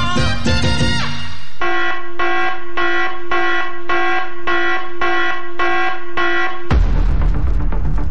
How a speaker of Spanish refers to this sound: Llegó la alarma. Alarma.